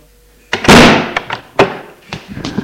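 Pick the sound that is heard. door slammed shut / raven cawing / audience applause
door slammed shut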